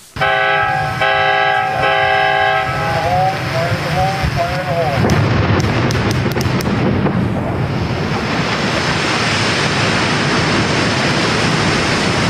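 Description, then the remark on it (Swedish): A sustained, multi-toned horn sounds for several seconds, then a loud, broad roar of water rushing through a hydropower dam on the Klamath River in the USA bursts in, released in early 2024 to drain the reservoir, and continues steadily, churning and hissing to the end. “Här forsar vattnet fram.”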